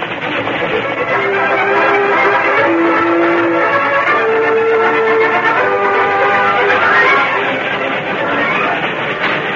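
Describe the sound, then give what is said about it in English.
A steam train rumbles and clatters loudly and steadily as it comes on along the track beyond a canyon opening, with brief whistle-like tones rising out of the dense roar. Nobody speaks. “headed for the canyon opening beyond which he could see the oncoming train”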